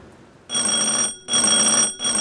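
A harsh electric service buzzer on the counter of Jimbo's country store is pressed over and over, sounding in three quick, evenly spaced bursts, each about half a second long with brief silences between, loud with no talking.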